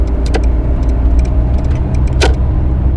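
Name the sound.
car driving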